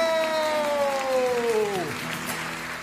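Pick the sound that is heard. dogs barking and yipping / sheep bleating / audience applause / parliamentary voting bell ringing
audience applause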